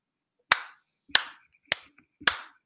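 One person claps for themself: four sharp, separate hand claps spaced about half a second apart, fairly loud, with no talking in between.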